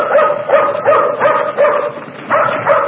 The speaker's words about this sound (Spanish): Una sombra que avanza hace ladrar al perro de Reina, que sentada en la escalera de su carro lo detiene rápidamente.